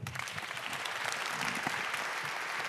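A crowd applauds steadily, a dense wash of many hands clapping at an even, sustained loudness for the whole stretch, with no voices rising above it.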